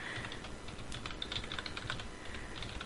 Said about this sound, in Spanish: Les recuerdo que ahorita ya está la segunda, encuesta de qué cómic, déjenme tecleo, espérenme un segundito.